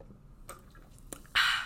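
A can of Alani Cherry Twist energy drink being sipped: two faint, soft clicks, then a sudden loud, airy slurp with a fizzy hiss that holds steady until the end. No one speaks.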